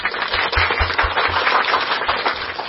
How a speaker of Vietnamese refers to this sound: Xin chào mừng tất cả anh chị em và các bạn, đặc biệt là các bạn trẻ cùng với cha của mình đến với điểm hẹn Chủ nhật hôm nay, một tràng pháo tay thật lớn.